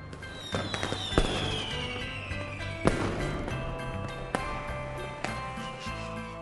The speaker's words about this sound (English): Look.The fireworks are so bright! 看,烟火好亮! Wow, they are very colorful!